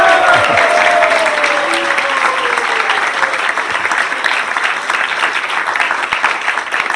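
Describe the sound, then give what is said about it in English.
A crowd applauds steadily for several seconds, a dense, loud wash of clapping with a few voices and a rising whistle or cheer at the start, then tapering slightly toward the end. “Let's give him a big round of applause for his son.”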